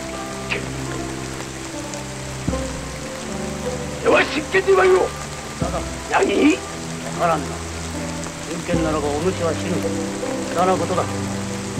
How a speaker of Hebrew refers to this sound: וכשהסמוראי הראשון מופיע, גשם מתחיל לרדת.